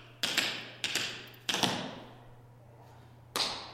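Tap dance steps, a brush, shuffle, slap and riff: four sharp, bright percussive strikes in an uneven rhythm, the first three close together and the last after a longer pause, each ringing briefly over a steady low hum.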